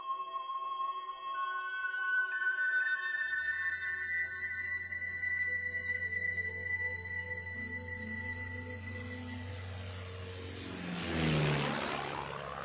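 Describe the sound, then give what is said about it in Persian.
A steady droning engine hum with sustained tones builds as German propeller warplanes approach through clouds of smoke over a battlefield, then swells into a loud rushing roar as they pass overhead near the end. No voices. “هواپیماهای جنگی آلمانیا از بین ابرهای دود عبور می‌کردند و جایی که توپ‌ها در میدان جنگ در حال انفجار بودند بسته به زمین رسید.”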